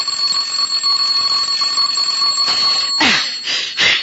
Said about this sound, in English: I said the doorbell. What about it? It's ringing. Let it ring.